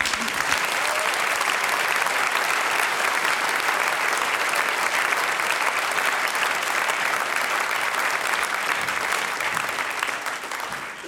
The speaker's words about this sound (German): Großer Applaus für die Petra und ihre ….